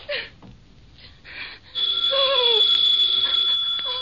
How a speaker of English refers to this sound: The phone kept ringing and ringing until I guess I went a little crazy.